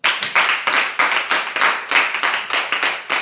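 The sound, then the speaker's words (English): An audience claps steadily and loudly, many hands overlapping into a dense wash with rapid, uneven surges of sharp slaps throughout, no voices heard. “Now, clap for him one more time.”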